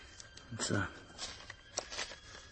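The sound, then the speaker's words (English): Crisp snips of scissors from an instrument case cutting open a packet stitched together with what seems to be seal gut, several short cuts in an uneven rhythm mixed with papery rustling, and a brief low voice underneath. “These scissors can cut through human gut, so they ought to be, yes.”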